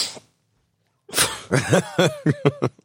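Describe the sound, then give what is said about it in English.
A brief hiss, a pause, then a run of loud snorting inhales through the nose, an inverted sniffle, five or six in quick rhythmic succession, with no speech. “That was just an inverted sniffle, right?”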